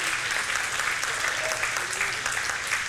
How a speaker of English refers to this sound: We clap. That's great, clapping.